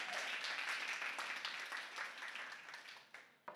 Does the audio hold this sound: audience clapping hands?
yes